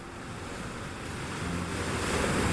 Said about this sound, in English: Above it all, polar winds never stop, shaping snow into frozen waves and carrying a soundtrack of isolation that has echoed for thousands of years.